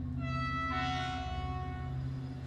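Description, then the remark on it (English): Railway station ambience at Victoria Station on a bitterly cold morning, Thursday 2 January 1969, 10:30 a.m., with a train: a steady low engine rumble and sustained tonal hum, a brief hiss of air or steam rising and fading partway through, with no voices. “Thursday the 2nd of January 1969, at 10:30 a.m, Victoria Station.”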